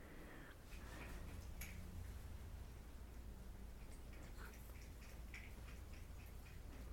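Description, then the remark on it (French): A cat makes quiet sounds: scattered soft clicks and tiny rustles over a low, steady hum in otherwise hushed surroundings, with no talking. “En ce moment, le silence de mon chat est de très haute qualité.”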